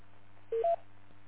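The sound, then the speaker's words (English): Two short electronic keypad beeps in quick succession as someone checks a phone, clear, over a low steady background hum with no one speaking. “Just checking on the phone here to see what we got up to today here.”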